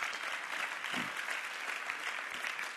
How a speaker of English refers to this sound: Go ahead, give the Lord a great clap offering. Amen.